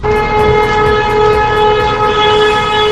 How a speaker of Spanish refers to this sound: Esta es la pitada que están realizando los trabajadores de la prisión de Alcolea, moto de protesta por la mala gestión por parte de la dirección del centro y también de la administración penitenciaria